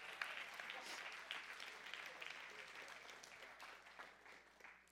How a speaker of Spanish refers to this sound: Denle aplauso a nuestros hermanos, ¿eh?